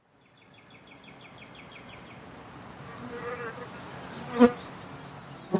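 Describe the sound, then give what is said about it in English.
Continuous buzzing of flying insects, a droning whine that swells and fades as they pass, with a couple of sharp louder buzzes near the end and faint high chirps in the background. “it's the season for insects. mosquitoes and deer flies, wasps and bees and hornets and everything else we love to swat.”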